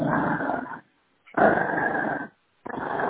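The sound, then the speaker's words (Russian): A dog growls in three sustained, rumbling bursts separated by short pauses, fairly loud, with no talking over it. “Рычите потихоньку.”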